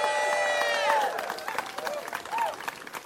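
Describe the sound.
A crowd at a gathering to raise the pride flag over St. Petersburg applauds community leaders, advocates, city staff and partners with dense, steady clapping, joined by a sustained whistle or shout at the start and scattered cheering voices as the applause continues.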